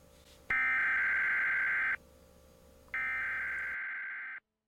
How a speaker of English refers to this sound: We've all felt our hearts drop when your phone, radio, or television puts out an Amber Alert. A child in your area has been abducted.